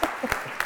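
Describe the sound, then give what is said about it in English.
An audience at an evening lecture applauds to welcome the distinguished speaker: a dense, steady wash of many hands clapping, with a few sharper bursts standing out briefly over the continuous noise. “So please, let us put our hands together and welcome our distinguished speaker this year,”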